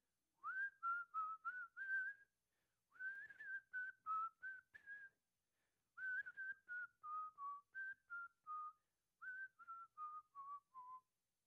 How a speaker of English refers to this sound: All right, nice whistling. You're supposed to whistle along, not name the song.